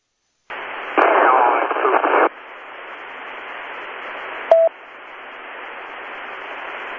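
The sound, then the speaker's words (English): A burst of harsh radio static from a barely intelligible radio transmission, about 80-85% noise, hisses on, louder for its first second or so, with a brief tonal chirp partway through. Any transmitted voice is buried and unintelligible beneath the noise. “Okay, whoever that was about 80-85% noise. I couldn't understand anything. So if it's a legit transmission, try and clean it up a little bit, wiggle the antenna, raise the gain, whatever you need to do.”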